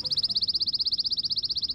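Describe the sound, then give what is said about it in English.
A pine warbler sings a steady, rapid trill of high, identical notes, evenly spaced and fairly loud, running for nearly two seconds with no other sounds. “Most warblers don't make appearances at bird feeders, but pine warblers often do.”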